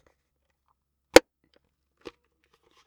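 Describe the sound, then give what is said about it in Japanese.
A sharp, crisp snap as a box of stiff, thick drawing-paper-like card, not cardboard, taken from an outer bag, is opened past its tape, followed by a softer click about a second later, otherwise quiet. “じゃあちょっと開けてみましょう。”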